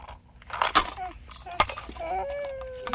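Keys jingle in a few bright, metallic bursts, shaken twice with a short pause between. A thin, high, wavering vocal sound rises toward the end.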